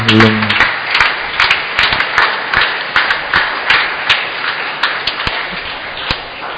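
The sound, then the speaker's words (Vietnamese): A church audience breaks into sustained applause to thank the benefactors who helped expand the parish hall: a dense wash of many hands clapping at a steady loudness with a few sharper individual claps standing out, and no voices over it. “Xin cộng đoàn cảm ơn bằng một tràng vỗ tay.”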